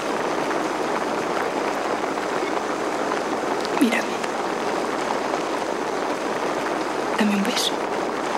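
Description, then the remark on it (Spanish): Steady, dense icy rain pours down in a constant hiss for the whole stretch, with a couple of brief faint sounds rising above it. “Mientras habla, la lluvia helada golpea su rostro.”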